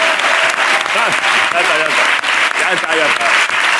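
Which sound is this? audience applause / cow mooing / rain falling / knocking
audience applause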